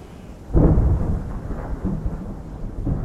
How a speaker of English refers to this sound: And this time it is thunder.